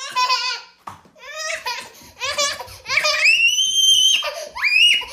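A 2-year-old girl screams in distress: choppy, high-pitched wails break into a long, shrill sustained shriek, then a final rising scream. Loud throughout, with no other voices.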